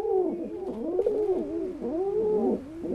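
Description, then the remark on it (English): Soft, continuous cooing from baby pigeons, a low warbling murmur that rises and falls in gentle overlapping swells, steady throughout, with no voices. “It's easy to imagine, when hearing soft cooing sounds like these, why baby pigeons would rather stay in the nest.”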